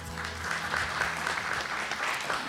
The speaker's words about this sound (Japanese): 皆様どうぞ大きな拍手でお迎えください。